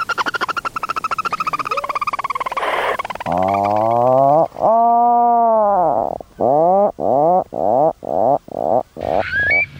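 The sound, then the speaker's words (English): A grey seal calls with two long, loud, drawn-out moaning wails, clear with no talking, set among other animal calls: rapid croaking before and a run of short yelping calls after. “Okay, so that was the common frog, the grey seal, barn owl, the puffin, the Eurasian curlew”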